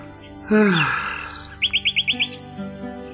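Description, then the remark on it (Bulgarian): Small birds chirping cheerfully while hopping from branch to branch: a harsh, scratchy call opens, then a quick run of six bright, evenly spaced chirps, with softer tweets trailing off at the end. “Писарят въздъхна тъжно и се загледа в птичките, които чироликаха весело и подскачаха от клонче на клонче.”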